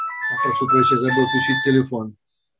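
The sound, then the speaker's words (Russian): A mobile phone ringtone plays a bright, stepping electronic melody for about two seconds, fairly loud, while a man keeps talking over it until it cuts off abruptly. “Забыл включить телефон. Сейчас. Это не вовремя.”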